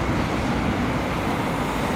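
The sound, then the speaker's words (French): A van passes close by a cyclist while overtaking a truck on the right, amid heavy traffic on a road with three car lanes each way: a dense, steady roar of engines and tyres that stays loud and constant throughout, with no voices. “Ah bah là, on vient de se faire frôler par une camionnette qui double un camion par la droite.”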